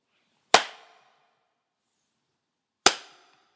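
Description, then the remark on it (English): Two sharp, loud bangs a couple of seconds apart, a test sound made in a gymnasium that also serves as a worship space, each followed by a ringing echo that fades out over roughly half a second, with silence between them and no talking. “So you hear the echo there, and you might not be able to pick it up here if you're listening to this online, but there's such an echo in this gym that it takes, you know, a few seconds for it to really die down, and even then it doesn't.”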